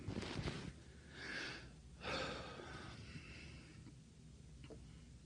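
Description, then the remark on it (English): Heavy, labored breathing from a person who has trouble breathing, with a few harsh gasping inhales and exhales spaced out over several seconds, no talking. “I wish I didn't have that limitation. But I have trouble breathing.”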